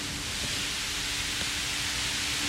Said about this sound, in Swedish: Tack och lov så de här dysterna slår till ibland och släpper ut ett befriande moln av vatten över oss här.